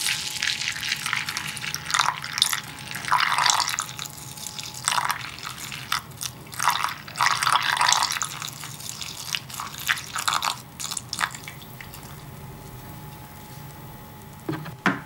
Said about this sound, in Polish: nalewa cienkim strumieniem mleko do miski z płatkami.